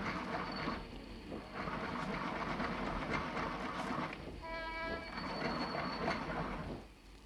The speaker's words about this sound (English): This pencil sharpener, Danny. A veritable ogre of pencils. Chews them up and gives no points in return. I've been waiting for you to come in, and I've been sharpening your pencils.